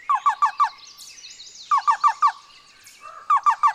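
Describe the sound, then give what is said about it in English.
A black-billed cuckoo calls in rhythmic bursts of four soft, hollow notes, repeated three times with short pauses, while fainter birdsong twitters in the background. “The black-billed cuckoo is a more northerly species, living in dense woodland, even conifer forests.”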